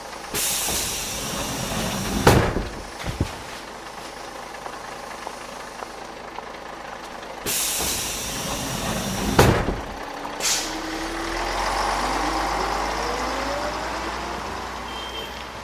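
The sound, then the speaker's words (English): A large bus idles as it arrives in Dharab, then releases two loud, sharp hisses of air brakes several seconds apart, with a low engine rumble and a rising whine as it settles. No talking. “I have to get off the bus.”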